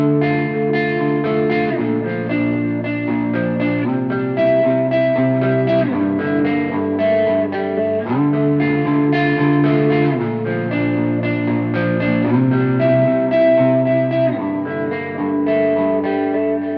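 A dense, muddy mix on mono playback without two speakers, sustained chords smeared together by unclear, heavy distortion and washy reverb, loud and continuous with shifting harmonies and no clear separation between parts.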